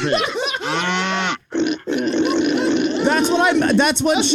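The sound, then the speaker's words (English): A person loudly imitates a pig, letting out a run of throaty grunts and snorts in quick succession, broken by a couple of brief pauses. “That is straight up calling a girl a fat pig.”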